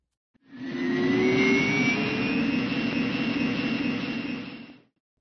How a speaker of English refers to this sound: Once the takeoff checklist is complete and the plane is lined up on the runway, the pilots apply takeoff power. You will then hear a little roar as the jet engines spool up.